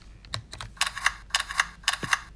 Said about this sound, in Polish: To był taki dźwięk tasowania kart, czy przekładania tych pól.